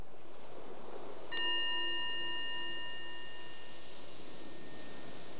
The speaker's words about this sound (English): The bell is our invitation to just be here, right now.